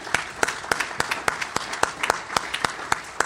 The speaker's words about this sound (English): Let's give all of them a big round of applause.